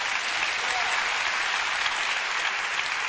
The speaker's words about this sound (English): Go ahead, give a clap for singles. Amen.